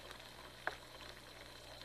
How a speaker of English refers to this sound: I'm going to fry an egg for you and your friend